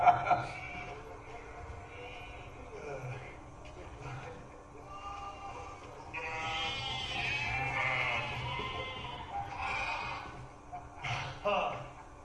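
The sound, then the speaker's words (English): Sheep bleat repeatedly, wavering calls that swell in the second half and come in several bursts near the end, over a steady low background rumble. “Stay with the sheep.”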